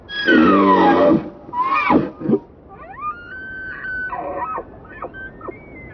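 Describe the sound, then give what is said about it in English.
A male elk bugles outdoors in Yellowstone in late August: a deep, rough groaning start rises into a long, high, whistling scream, followed by several shorter wavering squeals and grunts, loud with no talking. “Fueled by testosterone, the bugle call of this male elk is a boast of his strength.”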